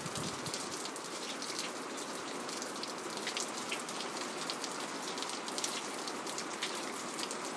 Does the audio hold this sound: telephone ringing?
no